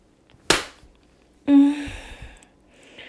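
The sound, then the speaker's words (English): One sharp, loud hand slap on a person's buttocks cracks out, a spank, followed about a second later by a breathy, voiced gasp or moan that trails off. “I love it when you slap my ass.”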